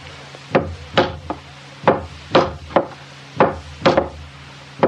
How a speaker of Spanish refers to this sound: Traje dos martillos y unos clavos. Perfecto. Vamos a clavetearle dos tablas que faltan por aquí nomás.